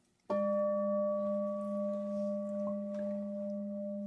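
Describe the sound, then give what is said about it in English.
A meditation bell is struck once, then rings on in a steady, clear tone with several overtones, its loud sustain gently wavering and fading only slightly. No one speaks. “I want the bell to ring, I want the bell to ring, and then there's that sound.”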